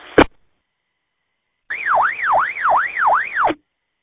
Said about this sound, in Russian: Какая-то скорая помощь проехала, не то полиция, сигнал скорой помощи или не то полиции.